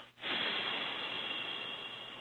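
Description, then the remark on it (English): A long, steady exhale of breath during a guided breathing exercise, fairly loud, starts after a brief pause and rushes out as a breathy whoosh for about two seconds, with no talking. “So now call it forth, and now exhale the air from your lungs with me now, and exhale.”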